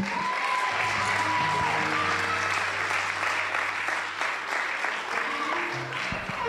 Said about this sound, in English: Y'all clapping like that's a good thing. Y'all ain't even heard me preach yet.